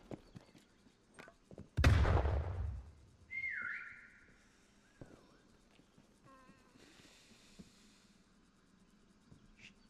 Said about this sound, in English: She's literally right outside, dude. She heard the whistle.